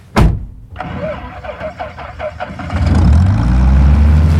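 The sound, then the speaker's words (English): A sharp thump, then a starter cranks in quick rhythmic pulses for about two seconds before the small propeller engine of a plane named Bessie, just given a tune-up, catches and settles into a loud, steady low roar. “Ah, there she is, my trusty plane, Bessie.”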